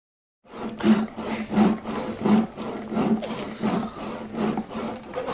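hand saw cutting wood

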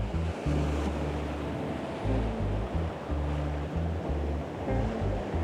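ocean surf waves

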